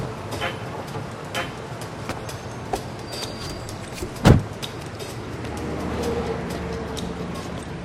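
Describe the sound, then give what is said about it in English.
A shiny black SUV rolls up and comes to a stop at a curb, its engine a steady low rumble with road noise, broken by one sharp clunk midway before the idling hum continues. “The shiny black SUV stops at a curb, and Ellie gets out with a briefcase.”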